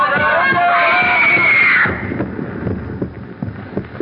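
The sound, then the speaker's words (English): A dense concert crowd roars with a woman's shrill, sustained scream rising above it, then the noise suddenly drops away to scattered murmuring voices. “First, the voices echoing in my ears, the fragments of speech about a concert are the same voices I heard in that crowd, rising again and again to the climax of a woman's scream.”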